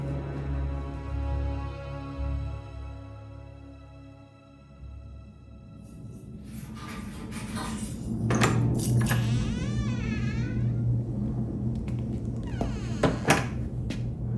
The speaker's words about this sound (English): That sounded like a Class 1 Dalek battle sub directly overhead.